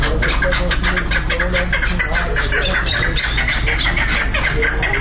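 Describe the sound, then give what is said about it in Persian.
Many fighting partridges call at once in a dense, continuous chorus of rapid, repeated clucking notes, loud, with a steady low background hum underneath, at a caravanserai near the bird market of the city of Sheberghan. “در اینجا صدای پرنده‌ها توجه رهگذران را به خود جلب می‌کند.”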